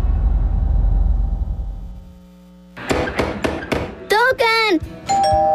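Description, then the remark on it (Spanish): A doorbell rings with a quick run of sharp, bright strikes, then a voice calls out briefly in Spanish asking who it is before a steady ringing tone sounds, all following a fading low rumble. “¿Quién? ¡La puerta!”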